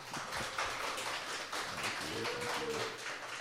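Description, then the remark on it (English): An audience claps steadily for the artists at the close of a Heartstrings Songwriters Circle show, a dense wash of many hands that holds at an even loudness for a few seconds, with a faint tonal cheer or whoop rising through it midway. “In closing, let's give them one more round of applause.”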